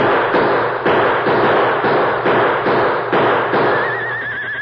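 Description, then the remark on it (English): A volley of gunshots as men empty their guns at the Lone Ranger on a white horse, firing about twice a second, roughly nine loud, booming cracks over a constant noisy rumble, with a thin wavering high whine rising at the end. “When I give the signal, start shooting, you hear? And don't stop until your guns are empty.”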